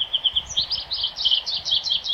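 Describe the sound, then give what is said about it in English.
A rapid, continuous string of high, twittering bird notes, bright, with no pauses—an American goldfinch's chattering calls heard alone with no voices. “American goldfinches are one of our most familiar birds, a sunshine sparkle of yellow at the seed feeder.”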